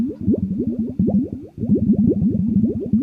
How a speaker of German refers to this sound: Hörst du? Ich höre Wasser blubbern.